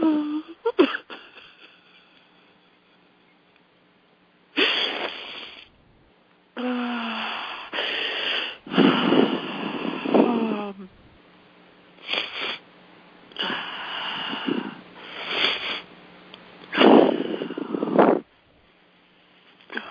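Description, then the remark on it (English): Heavy breathing with repeated wet sniffles as someone lets an emotion flow, each breath and sniff coming in separate bursts with short pauses between, sounding shaky and tearful. No one speaks. “Breathing, letting it happen, honoring that emotion.”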